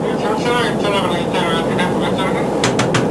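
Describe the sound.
Four quick knocks near the end, sharp and evenly spaced, on the door of a commercial jet airliner in flight at night, cutting through a steady loud roar of aircraft cabin noise, with muffled voices underneath earlier on.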